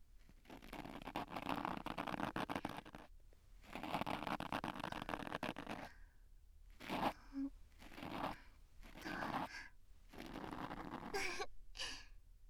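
An ear pick scrapes and rustles inside an ear in long scratchy strokes, then shorter stop-start bursts, with soft breathing sounds between them and no talking.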